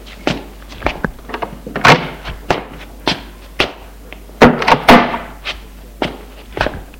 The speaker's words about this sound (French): Une demi-heure plus tard, sa mère frappe à sa chambre.